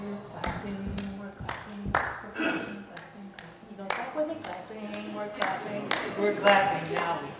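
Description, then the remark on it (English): Hands clap sharply at a steady, unhurried beat while voices sing a clapping song, the crisp claps standing out clearly above the melody throughout. “We're clapping.”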